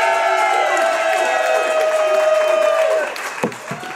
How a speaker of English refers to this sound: Big sellout crowd here at Hy-Vee. We're at the Wahlburgers, actually, the Hy-Vee at 4545 South Nolan Road at the intersection of Nolan Road and Highway. Great to see so many fans out here.